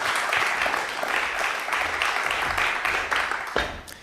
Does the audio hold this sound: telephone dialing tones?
no